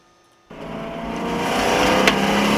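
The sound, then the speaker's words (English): A race car engine suddenly roars in after a brief silence, revving hard and growing steadily louder as it speeds up, a continuous mechanical howl with no voices. “There's a car racing.”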